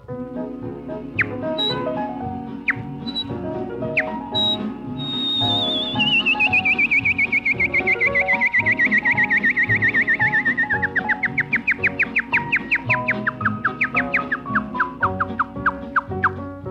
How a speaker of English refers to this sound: Next, far more cheerful bird is a song of the canary.